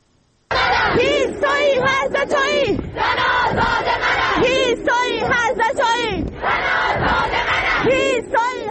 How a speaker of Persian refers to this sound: همچنین تصاویر دریافتی نشان می‌دهد که دانشجویان دانشگاه علم و فرهنگ تهران امروز تجمع کرده و شعار می‌دادند.